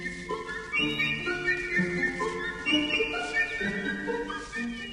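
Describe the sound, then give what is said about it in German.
A Tasman ground thrush calls with a continuous run of clear, whistled notes that step up and down in pitch, several tones overlapping at a moderate, steady loudness, with no talking. “Heute die Tasman-Erddrossel.”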